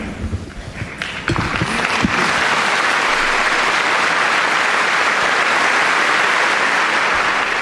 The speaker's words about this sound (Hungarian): Nagy taps jelzi, hogy sokan vannak a 6. Pál teremben, és így köszönik a Szentatyának az áldását, az ő szavait.